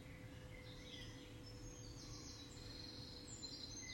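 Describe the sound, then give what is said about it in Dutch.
Faint birds chirp and sing all around the listener, several overlapping calls drifting in and out over a steady low background hum, with no one talking. “En luister naar de geluiden van de vogels om je heen.”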